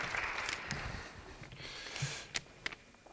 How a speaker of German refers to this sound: Applaus für den Geldschein